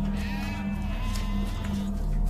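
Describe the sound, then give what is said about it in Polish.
Lambs being driven out of a temple bleat in a wavering, drawn-out chorus over a steady low hum, their cries overlapping and continuing throughout at moderate, even loudness. “Sporządził bicz ze sznurków i wypędził wszystkich ze świątyni, także baranki i woły.”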